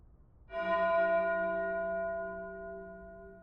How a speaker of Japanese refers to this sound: 遠くに響くこの鐘の音。聞き覚えありますよね。